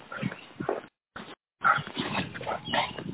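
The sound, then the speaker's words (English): A dog, Prince Pepe, whimpers in a few short, uneven bursts while being walked, separated by brief silences, moderately loud, with no one talking. “I'm sorry, I'm walking my dog.”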